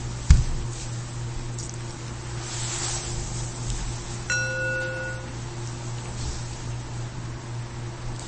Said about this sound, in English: I want to maybe let's put let's deploy these three bells, and let's go through and give everybody the opportunity to hit one of them. I want to actually just demonstrate on the timekeeper bell though.